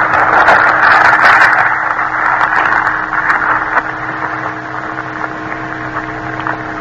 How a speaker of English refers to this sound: Now listen to a chicken gizzard grinding a ration of grain with hard granite grit.